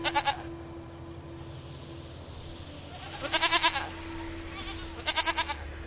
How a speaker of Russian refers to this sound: Она опять начала блеять, теперь уже жалостно, но никто ее не слышал.